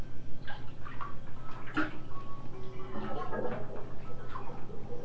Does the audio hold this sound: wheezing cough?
no